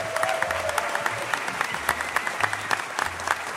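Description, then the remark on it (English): A crowd applauds Tom Merritt steadily, dense overlapping claps forming a continuous crackling wash at moderate volume, with no voices standing out. “Let's give him a big hand, everybody.”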